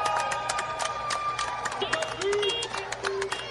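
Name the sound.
audience applause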